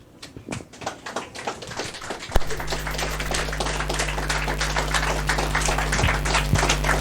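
An audience applauds as presenters come onto the stage for a presentation, with dense, steady clapping for about seven seconds; partway through, a low constant hum comes in beneath the claps and stays to the end.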